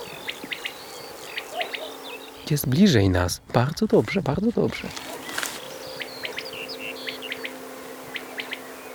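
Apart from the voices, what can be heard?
common quail calling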